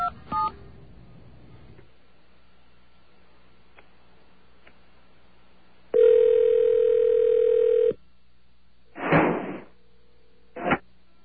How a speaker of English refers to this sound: Was I right or was I right? That was a door slam if I ever heard one.